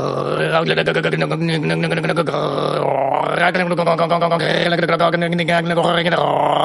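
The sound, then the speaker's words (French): Someone vocally imitates a malfunctioning fridge with a sustained, low, rattling drone and buzzy grunting tones, wavering in pitch with brief dips, loud and continuous for several seconds. “C'est ça que ça fait un frigo qui fonctionne pas bien.”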